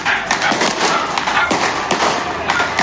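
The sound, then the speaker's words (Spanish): Firecrackers burst in a rapid, irregular string of sharp cracks and pops, loud and continuous, over a dense crackling background with a few heavier thumps mixed in. Some are falling onto houses in the commune of Pudahuel. “Algunos fulminantes caen sobre las casas.”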